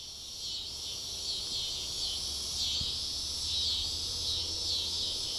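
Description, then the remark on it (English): A steady, dense insect drone fills the air on a hot summer day in Kansas, a raspy high-pitched buzz of cicadas in the trees that swells and fades in slow waves without pause, with no voices present. “The trees are alive with the sound of cicadas.”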